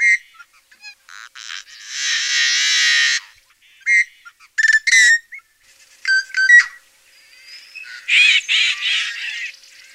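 Yellow-headed blackbird calls from birds perched on cattails over a marsh: short clicks and whistled notes, a long harsh rasping buzz, then sharp choppy squawks and another grating screech. High-pitched and loud, with no talking.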